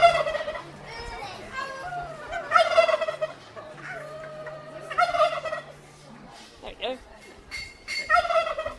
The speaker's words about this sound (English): We're trying to make the turkey gobble.